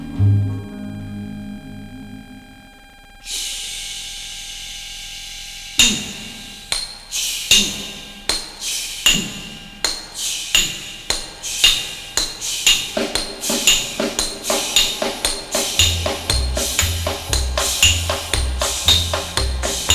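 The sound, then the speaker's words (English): Hammers clang sharply on steel, sparse at first, then quickening into a steady, driving rhythm of ringing strikes over low musical tones, with no singing or talking. “Listen to hammer swingers talking to you.”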